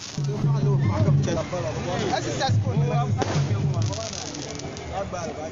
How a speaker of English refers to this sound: The sounds of firecrackers being lit off in anticipation of the new year 2018 in northern Ghana.